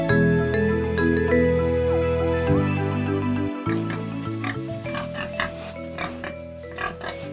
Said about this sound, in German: Das Schwein.